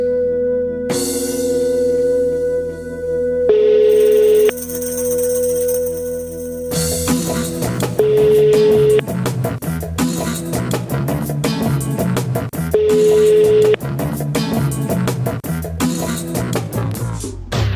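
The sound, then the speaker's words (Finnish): A steady telephone ringing tone of an outgoing call to a guest sounds in short one-second bursts every few seconds, repeating three times beneath continuous upbeat music with a driving beat. “Annaanpa tuosta soittaa, niin pääset höpiseen Sampan kanssa”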